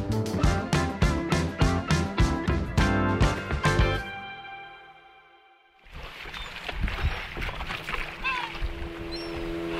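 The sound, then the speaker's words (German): A few seconds of rhythmic, pulsing music fade out, then a fisherman's motorboat engine drones steadily on a tour over the Elbe river, with rushing water noise and faint high chirps over it. “Ich treffe mich mit dem Elbfischer Lothar Buko auf eine Motorboot-Tour über die Elbe.”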